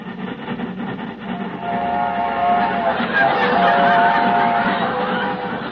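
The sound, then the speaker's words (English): A train sound effect played by mistake by the sound man during an Abbott and Costello radio comedy: steady rumbling rail clatter that swells louder partway through, with sustained whistle-like tonal wails layered over the rolling noise. “The sound man is on the wrong track again.”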